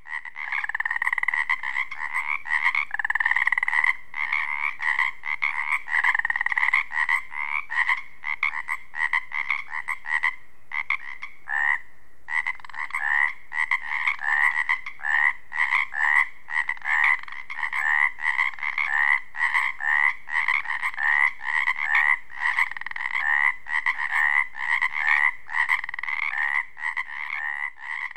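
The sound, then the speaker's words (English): A dense chorus of Pacific chorus frogs on the Olympic Peninsula croaking continuously, many overlapping rhythmic calls blending into a loud, steady pulsing din with no voices present. “Let's leave the Pacific chorus frogs and head further south on the Olympic Peninsula, Queets Valley.”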